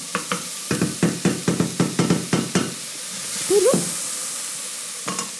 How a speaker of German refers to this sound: Wenn ich immer eine Portion Zwiebel zum Beispiel dazu gebe, dann weiß ich, da kommt jetzt wieder eine Prise Salz dazu und am Schluss tue mir sowieso noch abschmecken. Ich verrühre das jetzt ordentlich. So.